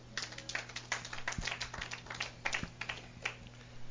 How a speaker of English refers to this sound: Give God a hand clap.